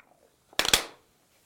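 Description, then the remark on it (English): A brief burst of crackling fizz as vinegar reacts with baking soda in a balloon, demonstrating the fermentation process, loud for under half a second, then fading into silence with no voices. “Let's pretend that this vinegar in here is grape juice, and inside the balloon is some baking soda that will demonstrate the fermentation process.”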